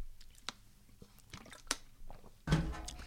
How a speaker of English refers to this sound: Let me take a little sip of Hydrus.